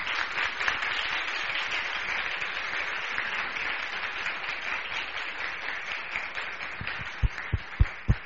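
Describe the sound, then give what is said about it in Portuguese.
Sustained applause from an audience at a council session, given as a motion of applause honoring a teacher and students, a dense, steady wash of many hands clapping throughout, with a few sharp, heavy thumps breaking through near the end. “Então, por favor, gente, de pé as duas, vamos receber essa moção de aplauso de todos, que eu acho que merece.”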